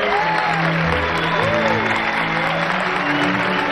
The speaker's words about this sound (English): All the guests cheer. From backstage, … join the cheering.